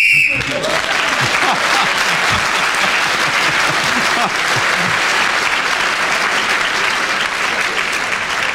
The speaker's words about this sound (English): Well, he did work very, very hard. He deserved that round of applause and the extra point for speaking when the whistle went, and I think everybody was straining for him to finish and nobody wanted a challenge.